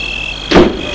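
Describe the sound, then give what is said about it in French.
A single muffled thud of a car door shutting as a woman gets into the car, with a faint steady high-pitched tone running through the background before and after. “Puis, elle entre dans la voiture.”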